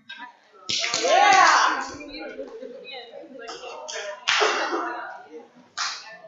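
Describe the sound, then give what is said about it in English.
Several sharp, bright hand slaps land a second or two apart as people exchange high fives, each with a quick burst of noise, amid excited voices and shuffling. “Okay, just slap a hand or something, okay?”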